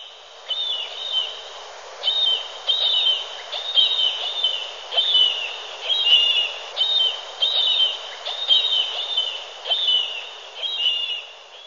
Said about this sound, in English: Yeah, they tend to really talk to each other a lot. So you might be way from shore and see this little tiny bird and it's making calls like that because they're keeping in touch with their mate.